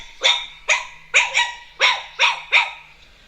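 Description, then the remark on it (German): A Chihuahua lets out about seven sharp, high-pitched yapping barks in quick succession, fairly loud, with no voices. “Chihuahua.”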